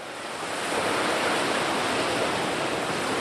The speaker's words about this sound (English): It's a beautiful day at Manly Beach. Gentle waves are rolling in.